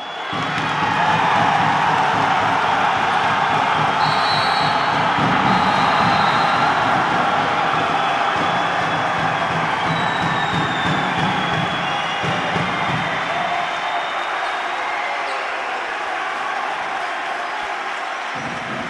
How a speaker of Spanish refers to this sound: Era el sonido, el momento exacto en el que terminaba el tercer partido de los playoffs finales entre el Club Deportivo Baloncesto Cabra y el Club Deportivo, el Club Baloncesto Aljustana de Lucena, con resultado favorable para los segabrenses de 69-66